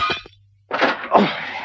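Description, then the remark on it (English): Window glass shatters in a loud crash as a man crashes his way through the windows out into the grounds, followed after a brief pause by two more bursts of breaking and tinkling shards, with no voices. “hesitated for a fraction of a second, and then crashed his way through the windows out into the grounds.”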